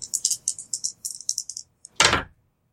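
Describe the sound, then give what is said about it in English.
Two dice rattle in a cup or hand in a quick series of clicky shakes as they are rerolled, then a louder clatter as they are thrown onto a hard surface, with no talking. “So you get to reroll two of your dice, so keep the R2.”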